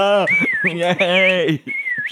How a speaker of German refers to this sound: Wir alle kennen das berühmte Pfeifen.